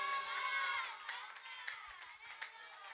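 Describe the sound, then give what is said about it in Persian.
A large crowd chants the salawat together in unison, a loud, sustained swell of many voices with a few scattered sharp sounds breaking through near the end. “یک درمیون دست بزنی، یک درمیون صلوات بفرستی که دوگانگی ایجاد نشه. شب این الان صلوات بود، این صلوات بعد بعدی دست میزن.”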